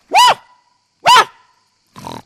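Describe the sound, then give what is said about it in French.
A person imitates a barking dog: two loud woofs about a second apart, followed by a softer, rougher third bark, with no other talking. “Je suis le chien.”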